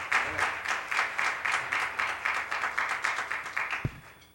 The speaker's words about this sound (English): Why don't you just all give him a hand clap of praise to God? God's so good. Amen.